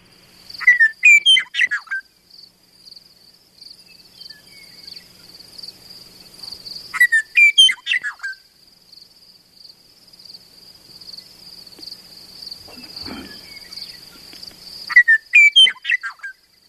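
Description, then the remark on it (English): A Western Meadowlark sings three rich, bubbling, flute-like phrases, spaced several seconds apart, over a steady high insect buzz, with a faint rustle between songs. “So, well, we did want to let people listen to one other unusual bird that is declining in Wisconsin, the Western Meadowlark.”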